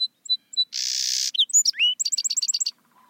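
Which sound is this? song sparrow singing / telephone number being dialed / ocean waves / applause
song sparrow singing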